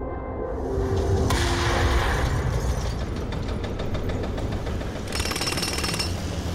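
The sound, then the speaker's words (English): Jackhammers pound away at concrete in rapid, rattling bursts, loud, over a steady rumble of forklifts and machinery, with occasional clinks of breaking rubble, during redevelopment work in downtown Haley. “There were jackhammers and forklifts and rubble.”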